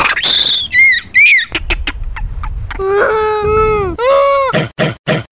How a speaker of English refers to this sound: Nothing, right? Well, that's because you're not a rhesus monkey. If you were a rhesus monkey, those sounds would mean a great deal to you.